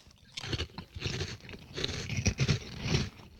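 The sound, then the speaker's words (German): Crunchy seasoned snack being chewed, with repeated crisp, crackling bites and grinding mastication in an irregular rhythm, moderately loud with no talking. “Und wenn man da ein paar mehr von gegessen hat, dann bleibt auch der Geschmack schön im Mund, also dann...”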